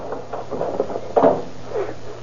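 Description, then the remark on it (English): The door of a pool room in Fresno is pried open: scraping, creaking strain on wood, then a sharp crack and clunk as it gives, with a softer creak after. Moderately loud, and no one speaks. “Come on, here's a door we can pry open.”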